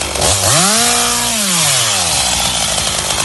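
chainsaws pruning olive trees

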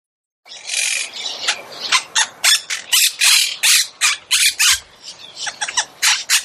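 monk parakeet squawking calls

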